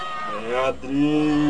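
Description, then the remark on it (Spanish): Human voices wail and moan in long, wavering tones: the screams, weeping and groans of the people Don Sigismundo had harmed. One cry slides downward before a brief gap, then a steady, low, drawn-out groan keeps swelling. “En ese momento se comienzan a escuchar gritos, llantos y gemidos.”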